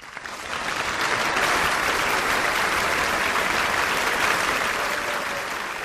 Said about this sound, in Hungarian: Taps a meghívottaknak.